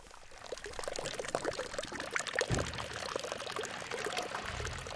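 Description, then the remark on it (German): Water from a village fountain in Liesburg splashes and pours steadily, a continuous bright gurgling wash with no voices, briefly swelling louder midway before settling back to an even stream. “Ein Brunnen, eine Baustelle, ab und zu ein Auto.”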